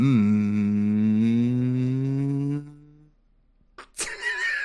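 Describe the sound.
A voice hums one long, steady "mmm" for about three seconds, pitch rising slowly, then fading out, much like a car pulling away. After a short silence, a child's voice briefly calls out.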